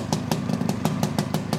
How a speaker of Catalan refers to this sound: I el Pep Vergés, quan li van descobrir la moto, la va engegar, va omplir de fum tot allò. No, no feia fum, aquesta.